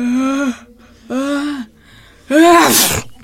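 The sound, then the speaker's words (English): A patient with a sore throat and a headache sneezes theatrically, loud: two drawn-out voiced inhales followed by a sharp, breathy burst at the end, with no talking. “Do you sneeze?”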